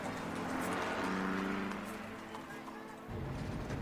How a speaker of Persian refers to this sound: رضا با ماشینش تو خیابون حرکت میکنه.